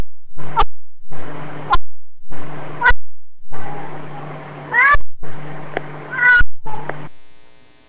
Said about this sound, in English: That was indubitably a cat, right? A feline. Somewhere along the line, this cat learned how to bark like a dog, right?